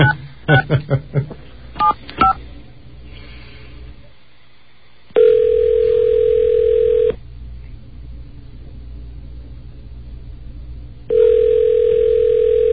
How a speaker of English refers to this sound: Does 311 usually ring like this? I've never called.